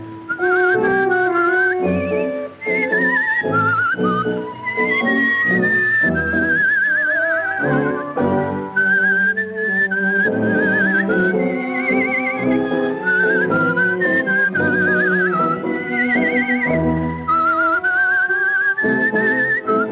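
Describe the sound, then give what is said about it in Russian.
Whistled birdlike trills imitating a nightingale, performed in a tango by a woman seated in a decorative cage under the dome of a concert hall, warble at a high pitch in rapid wavering runs over continuous accompaniment from an orchestra below, loud and steady throughout with no talking. “сидела в этой клетке под куполом концертного зала и изображала трели соловья, это же красивая танго, а внизу сидел оркестр, который ей аккомпанировал.”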